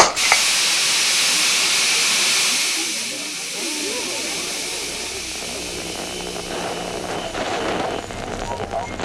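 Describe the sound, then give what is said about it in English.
A loud burst of steam hisses out abruptly and keeps rushing for several seconds, easing slightly after a couple of seconds but continuing as a steady, breathy hiss with faint rattling underneath. “And with that, Von Zwack disappeared into a cloud of steam.”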